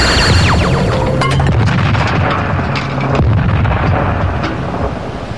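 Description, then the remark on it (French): A loud cartoon-style explosion: falling whistle tones drop into a dense, roaring blast with sharp cracks and pops scattered through it, rumbling steadily for several seconds without any voices. “Je l'ai eu. Il a explosé sur le coup.”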